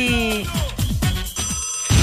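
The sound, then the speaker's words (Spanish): A telephone rings with a bright, warbling electronic tone, repeating in quick bursts, with a brief noisy crackle at the end. “¿Quién llama tan temprano?”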